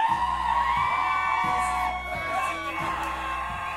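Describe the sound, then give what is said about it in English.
A large crowd of audience members screams, whoops and cheers at full volume, a dense, sustained roar of many voices lasting several seconds with no pauses, making noise to hear one more song and so those outside can hear them. “Alright, they're all outside, so you gotta scream as loud as possible so they hear you.”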